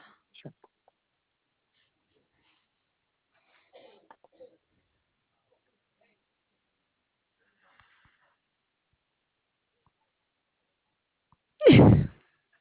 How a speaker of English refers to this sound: Bless you. Was that a sneeze? Yes, it is.